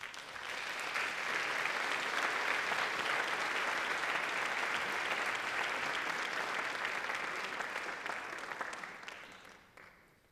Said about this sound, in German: Bitte gebt ihr einen sehr, sehr großen Applaus.